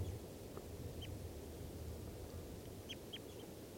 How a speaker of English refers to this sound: Wild birds. Definitely type two. I heard them calling as they flew in. Wild. Both birds calling there.